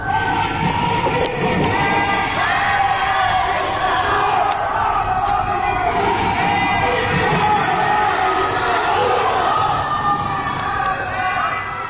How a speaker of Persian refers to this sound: اینجا در شهرک اکباتان هیدر هیدر گویان به ساختمان ها و پنجره ها شلیک می کنند. پنجره هایی که از آنها صدای شعار می آید.